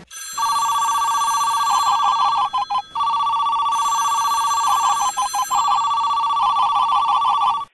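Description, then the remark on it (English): A telephone rings loudly and steadily at the start of a listener's winning call for a radio contest, its bright electronic trill pulsing in rapid bursts with brief gaps, repeating for several seconds with no voices present. “Okay, and let's hear that winning phone call right now.”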